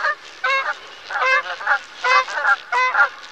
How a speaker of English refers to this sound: In the winter, these wetlands are a good place to spot dusky Canada geese. Listen carefully to their call.